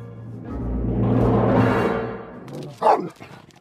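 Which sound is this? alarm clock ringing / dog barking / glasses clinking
dog barking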